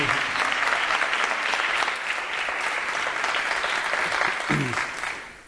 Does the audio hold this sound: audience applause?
yes